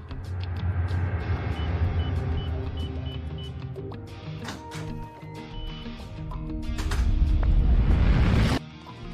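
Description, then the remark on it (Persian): A burglar alarm beeps in a steady, evenly spaced series of high electronic tones over a low engine-like rumble, with bursts of clatter and noise building toward the end. “خب دزدگیر یه لحظه غیر فعال شد.”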